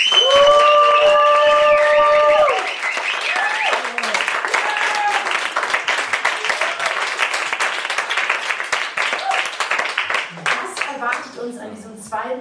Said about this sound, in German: Ich freue mich auf jeden Fall, dass ihr so zahlreich hier seid und lasst uns die Person an den Endgeräten zu Hause hören, wie viele wir sind. Macht einen großen Applaus für unseren heutigen Abend.